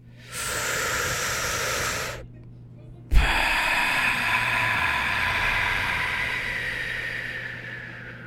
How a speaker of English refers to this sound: let's do a good oxygen flushing of our deep breaths. So on 3, 2, 1.